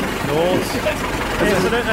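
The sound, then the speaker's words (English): An engine sputters and labors steadily, struggling to catch as it tries to start, with voices audible over the rough, low rumble throughout. “That's not getting over. It sounds like an old tiger moth trying to take off at the airport.”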